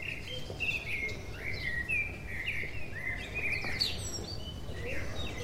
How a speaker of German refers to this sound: Aus den Bäumen am Campo San Lorenzo empfingen sie das Gezwitscher der Vögel, die den Morgen begrüßten.